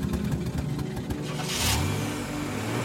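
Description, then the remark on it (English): A car engine rumbles, swells with a brief gritty surge partway through as it catches and revs, then settles into a steady low idle. No voices. “I shake these thoughts from my head and start up his car.”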